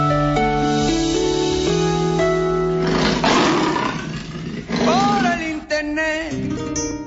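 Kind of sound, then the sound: animal, tiger roar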